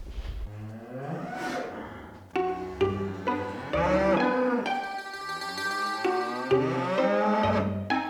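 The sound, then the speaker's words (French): Cattle moo loudly and repeatedly on a farm, their long, drawn-out calls overlapping one after another with barely a pause, with no talking. They are in the stabulation, a large shed where the cows are kept only in winter, where two calves have been separated from their mother. “Dans la stabulation, le grand hangar où les vaches ne rentrent que pour l'hiver, il y a 2 veaux qui ont été séparés de leur mère”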